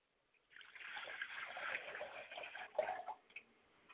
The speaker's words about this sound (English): Ladies and gentlemen, join me as I do libation. I pour a glass of water to my Father Spirit, and I say, Ashe. I pour a glass of water to my Mother Spirit, and I say, Ashe.